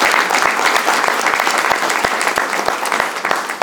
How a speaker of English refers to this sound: How about one nice round of applause for all of our seniors?